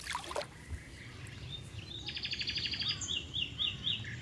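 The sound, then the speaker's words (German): Birdsong in a Rhine floodplain forest of pollard willows, white poplars, elms and oaks: a rapid trilling song and bright repeated chirps ring out against a steady low rumble of background ambience, with several birds calling. “Und dann diese Bäume überall, große Kopfweiden, Silberpappeln, Ulmen, Eichen und überall hört man Vögel.”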